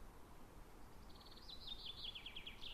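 A single bird sings a quick series of high, thin chirps that speed up into a trilling phrase, over a soft steady background hush with no voices, on a calm, sunny morning after a storm with a light wind.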